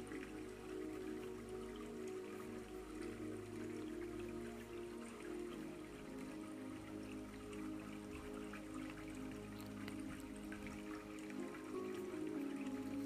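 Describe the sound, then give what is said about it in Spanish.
Water flows steadily and continuously, a soft constant rush dotted with small splashy droplet sounds and a low steady hum underneath, with no voices. “Y así como el agua fluye, así fluyen tus pensamientos.”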